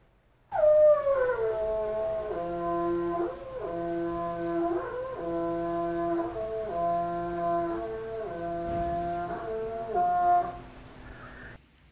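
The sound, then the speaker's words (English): Bernice, a female northern elephant seal, recorded in 2005, gives a long, loud, tonal moaning call in air, lasting about eleven seconds with rich harmonics and pitch that steps up and down, then stops abruptly. “In air vocalization produced by Bernice, the female northern elephant seal, in 2005.”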